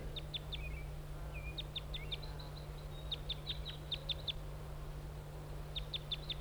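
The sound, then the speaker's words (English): A wild bird perched on a spruce across the road gives flight calls, quick bursts of short, sharp, high-pitched chips repeated in clusters, with a few softer warbled notes between, over a steady low hum. “and giving flight calls.”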